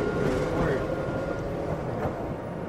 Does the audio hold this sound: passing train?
yes